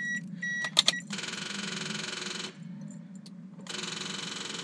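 A car engine struggling to start: a few sharp clicks, then two long, harsh whirring bursts of cranking over a steady low rumble that never catches. No one speaks.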